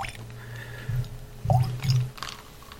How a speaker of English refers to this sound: Okay, so we've dropped, I'd say, between an eyedropper and a tablespoon of water into this. Well, that's a pretty big range. Yeah. Okay, it's probably closer to a teaspoon.